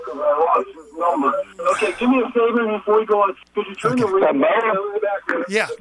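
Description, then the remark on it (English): A radio plays steadily in the background of a caller's phone line, its broadcast voices thin and band-limited, running almost continuously with only brief pauses, at a moderate level. “Could you turn the radio down in the background because I'm sure you're going to want to give us a phone number and now we'll be able to hear you.”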